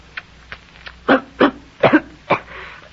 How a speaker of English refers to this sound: Ain't that funny? How it makes you cough, I mean.